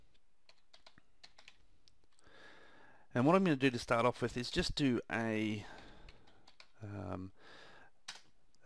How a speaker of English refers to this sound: But essentially, what we need to do is we need to run the scan state command. And bear with me with my typing.